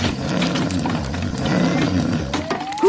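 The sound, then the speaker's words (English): A sleeping giant's enormous snoring: a deep, rumbling roar rolls on steadily for about three seconds, loud and gravelly, with a thin rising whistle creeping in toward the end. “He struggled to get close, because each time he walked forward, the giant's enormous snores blew him back.”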